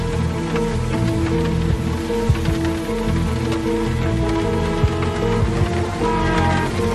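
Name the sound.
heavy rain falling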